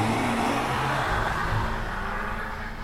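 A Volvo Amazon car engine revs loudly, its low rumble rising and shifting in pitch, then steadies into a continuous roar as the car peels out from a courtyard on a summer night and drives away.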